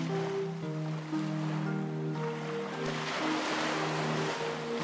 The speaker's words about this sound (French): Aujourd'hui, j'ai choisi le son de l'océan, une relaxation qui aidera votre enfant à se glisser paisiblement dans le sommeil en toute sérénité. Ce soir, tu imagines le son de l'océan.